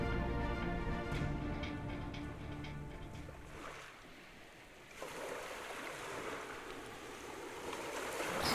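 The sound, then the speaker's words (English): Loud, churning water rushes continuously, with a deep rumbling undertone early on and a fresh surge of turbulent noise halfway through, as the ground of an island crumbles into a swirling vortex of sand and water. “The ground below them began to crumble into a vortex of sand and water, dragging the island into the depths.”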